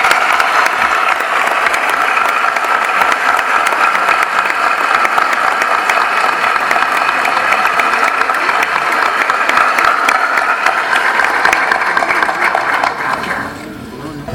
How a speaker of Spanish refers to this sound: Un fuerte aplauso, por favor, para los concejales.